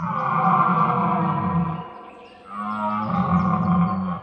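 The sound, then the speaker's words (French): Two long, deep bellows from red deer stags in rut in a forest at nightfall, loud, the first roar breaking off briefly before a second drawn-out, throaty call follows, with no talking. “La nuit tombe et au loin dans la forêt, les cerfs brament.”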